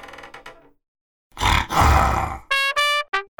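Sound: tiger growling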